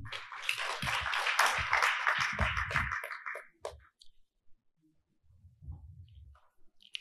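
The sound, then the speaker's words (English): A burst of audience applause for administrators at a talk, a dense wash of many hands clapping for about three seconds before tapering off into scattered claps, followed by a faint low murmur of voices. “And I think that's something that you should give your a round of applause for that as well.”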